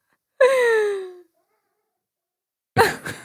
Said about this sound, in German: Ich höre Katzen miauen, ganz fürchterlich. Und ich suche, wo die weinen.